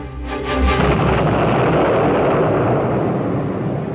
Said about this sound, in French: L'explosion devant la maison de Tahar Septi doit servir d'avertissement.